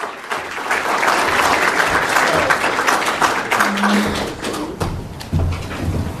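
A crowd applauds steadily for about six seconds, a dense, sustained wash of clapping with occasional louder individual claps and a faint voice briefly underneath.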